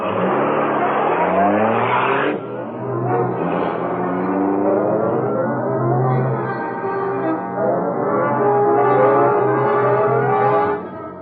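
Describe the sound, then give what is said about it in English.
The engine of the Black Beauty, the Green Hornet's high-speed car driven by Cato, roars loudly, its pitch climbing again and again as it revs through the gears and speeds away, steady and unbroken with no voices. “high-speed Black Beauty, car of the Green Hornet”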